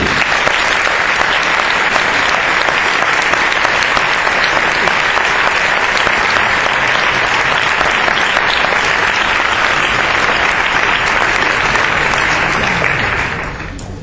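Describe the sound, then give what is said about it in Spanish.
Loud, sustained audience applause at the CEC film medal ceremony, given as a tribute to film journalists, teachers and scholars. Dense, steady clapping holds at full strength for about thirteen seconds before quickly tapering off at the end. No one speaks over it. “Desde aquí nuestro homenaje y un aplauso fuerte para ellos.”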